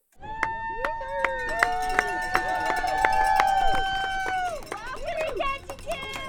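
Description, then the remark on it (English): A few dozen spectators cheer and whoop outdoors at a downtown boat harbor in southeast Alaska on a sunny evening, with sustained horn-like toots and rising, falling whistles over the steady clamor, as a yellow multi-hull sailboat with four men glides toward the dock at the finish of a human- and wind-powered boat race. “A few dozen spectators cheer on the northbound Nutters, A team of four men aboard a yellow, multi-hull sailboat that's gliding toward the dock.”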